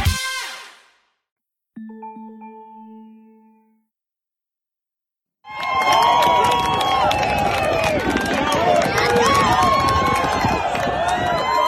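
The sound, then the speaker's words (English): A loud, dense crowd cheers and shouts continuously at a Liberty men's lacrosse game on campus, a roaring wall of voices and whoops that starts abruptly after a few seconds of faint chimes and silence. “The cheering you hear is from an Instagram post on March 13th from Jerry Falwell Jr.'s feed.”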